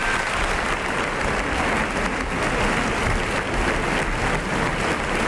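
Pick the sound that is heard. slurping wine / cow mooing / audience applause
audience applause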